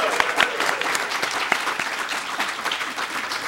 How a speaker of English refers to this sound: Applause signs are lit, and we're excited to have a great and very large and intimidating audience with us here today for the 70th edition of the Digital Campus Podcast